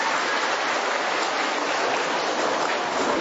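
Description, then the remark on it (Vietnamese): A crowd claps steadily in a dense, unbroken wash of applause, holding at an even loudness throughout without any voices rising above it. “Cho một tràng pháo tay đi thưa anh chị em.”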